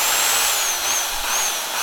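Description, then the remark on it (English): A power drill from a children's toolkit whirs steadily and loudly, a dense high-pitched motor whine with a faint shifting tone as it runs without pause. “The Little Handyman includes a power drill.”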